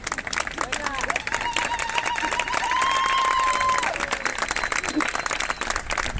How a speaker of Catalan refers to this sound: Un aplauso súper fuerte para la organización del Orgullo Loco Radical Estatal. Se llevan 5 meses dándose una paliza brutal. Gracias a las aliadas. Aplaudiros todas, venga.